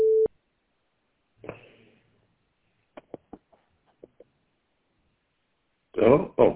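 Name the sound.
voicemail recording tone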